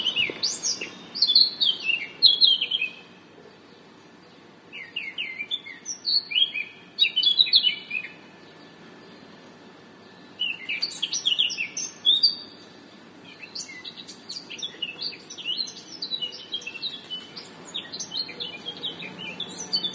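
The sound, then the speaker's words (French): A bird chirps and twitters in a Brugmansia shrub in Nice at 6 in the morning, in repeated bursts of quick, high notes, pausing briefly between phrases over a faint background hum. No one speaks. “Il y a un oiseau dans le Brugmansia.”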